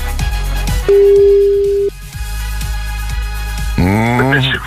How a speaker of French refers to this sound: Pour la première fois de la matinée, le téléphone sonne. C'est peut-être chez vous que ça se passe.